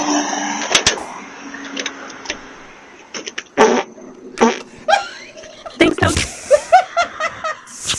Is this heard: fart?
yes